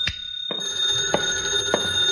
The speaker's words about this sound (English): My phone was ringing when I unlocked the door.